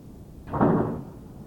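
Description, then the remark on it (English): A door is opened and shut in one quick motion, giving a single soft, muffled thud, with no one speaking. “Can you open and close that door for a second and see how it sounds?”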